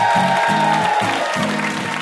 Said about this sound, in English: One last round of applause for our VIP, Meg Wolitzer.